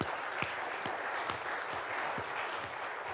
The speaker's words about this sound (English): But we appreciate you men that served for our country, and I wish that we could give you more than just our applause, but let's give them a hand, yes.